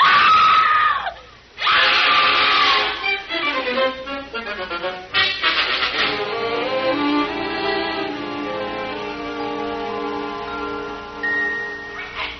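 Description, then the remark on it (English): A woman, a man's wife, screams long and loud on seeing him, her shrill, wavering cry rising and falling in pitch with only a brief break near the start, sustained for several seconds. “Oh, by the way, when my wife sees me, she'll start screaming, but just don't pay any attention.”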